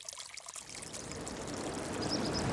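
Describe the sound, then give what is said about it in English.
Steady flowing water in an irrigation canal in central Oregon, where the terrain is flat and the water moves steadily but slowly; a continuous rushing and gurgling, holding an even level throughout with no voices. “You're listening to the sound of water flowing through an irrigation canal in central Oregon.”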